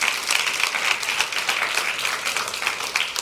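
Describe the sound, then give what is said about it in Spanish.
An audience bursts into sustained applause for the Lord, many hands clapping in a dense, crackling wash that stays steady and fairly loud throughout, with no voices standing out. “A ver, un aplauso al Señor.”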